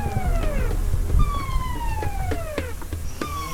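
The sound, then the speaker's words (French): A wailing police drone siren sweeps downward in repeated falling tones with bright harmonics, loud over a low rumbling background, several descending glides across a few seconds. “Ceci est un drone de la police.”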